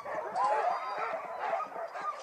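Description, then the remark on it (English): A chorus of harnessed sled dogs barking and yipping all at once, loud, as they set off on their first run pulling two sleds with two people each, with overlapping excited calls and high-pitched yelps in a continuous noisy din. “I got to harness about 3-4 dogs, help.”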